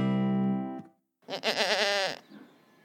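A male goat (a buck) bleats: a steady, nasal call fades out, then after a short pause a loud, quavering bleat with a wavering tremble follows.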